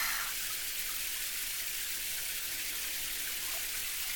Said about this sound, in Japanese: あなたのお体にお湯をかけて泡を洗い流してっと。